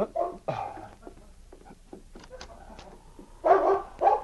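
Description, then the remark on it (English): Sergeant Preston's great dog King barks loudly in short bursts at the start and end, with lighter scratching and clicking sounds, like claws on the cabin door, in between. “About half an hour later, Sergeant Preston was aroused into consciousness by the sound of the great dog King barking and scratching at the door.”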